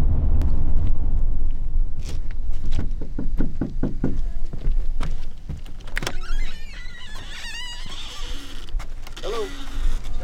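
Several sharp knocks on the front door of a student's home on a reservation, by a school liaison looking for absent kids, in a quick, uneven series, fairly loud over a steady low rumble, followed by creaking and chirping sounds. Nobody answers the door.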